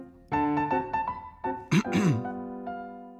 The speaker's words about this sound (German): Und wenn er nervös war, dann fing er an, sich zu räuspern. Doch wenn sich einer beim Vorspiel dauernd räuspert, dann hören alle mehr auf das Räuspern als auf das Klavierspiel